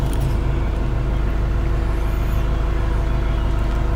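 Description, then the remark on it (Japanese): A bus arrives a little early at a stop, its heavy diesel engine droning in a loud, steady low rumble throughout, with a faint high whine briefly rising over it midway. “ちょっとバスが早く来たみたいですね。”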